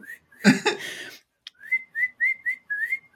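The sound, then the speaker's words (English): After a short breathy burst, someone whistles a quick series of about six short, rising chirps, fairly soft, mimicking a bird's call. “Just making a little bird whistle ASMR content.”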